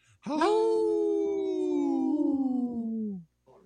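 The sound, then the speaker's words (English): People howl like wolves in a single long, loud cry that swoops up quickly and then slides slowly downward for about three seconds before breaking off. “Howl! Ricky, you didn't howl with us”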